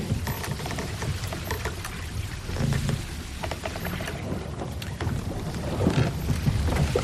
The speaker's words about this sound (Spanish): El barco no se mueve mucho y la poca luz de la ciudad abre la puerta al silencio, tan solo roto por el relajante sonido de las olas chocando en proa.